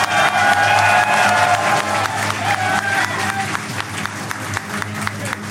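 A crowd bursts into steady applause with cheers and whoops mixed in, dense clapping that stays loud for several seconds with a few shouting voices rising above it.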